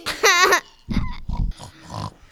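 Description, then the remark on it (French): Human voices imitate a pig: a loud, high-pitched squeal followed by two deep, rough snorting grunts and then a softer grunt trailing off. “Et si vous pouviez éviter d'imiter le cochon, ce n'est pas radiophonique, les gars.”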